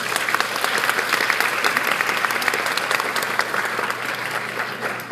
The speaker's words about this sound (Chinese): 那让我们再用一次热烈掌声